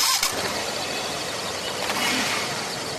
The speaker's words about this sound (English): As soon as you put on the engine, within 2 minutes, the hydrogen gets released and creates the energy. In other hydrogen cars, the gas is directly pumped into the car, but here the hydrogen comes from water, making it very safe.